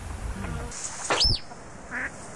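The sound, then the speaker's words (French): A duck mimicking another bird's call: one sharp, bright whistled cry that swoops up and down, fairly loud, then a softer short call a moment later, with no talking. “Ou le cri d'un autre oiseau.”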